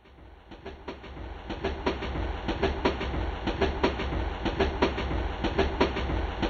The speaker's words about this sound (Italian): L'acciaio del treno che squarcia il verde, che sui ponti oltrepassa fiumi di macchine, con il fiato ne arriva alla stazione.